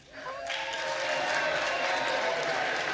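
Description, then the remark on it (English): A large crowd in a chamber bursts into sustained applause and cheering for Hakeem Jeffries during a vote count, swelling quickly after a brief quieter start into a dense, steady roar of clapping and shouts that stays loud throughout. “They're cheering for Hakeem Jeffries.”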